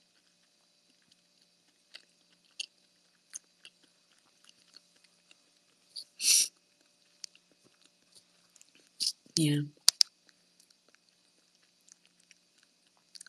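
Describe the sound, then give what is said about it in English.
Chewing salmon, with soft wet mouth clicks and a few louder smacking bursts, spaced irregularly over quiet background; one person briefly speaks a single word. “Sorry, I'm chewing on a salmon right now.”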